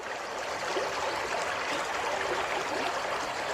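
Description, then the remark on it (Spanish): Steady water flowing and burbling along a narrow irrigation channel (reguera) in Piñuecar-Gandullas, in the Middle Lozoya Valley, Spain. A continuous rush with fine trickling texture and no pauses, with no voices. “¿Este sonido agua? Este sonido agua, Nieves, viene del lugar más antiguo que se conserva de toda esta zona.”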